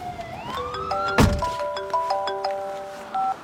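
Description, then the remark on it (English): A single solid thud of a door closing lands about a second in, set against steady electronic tones and beeping chimes that carry on throughout. No one speaks. “Shut up and walk. And close the door.”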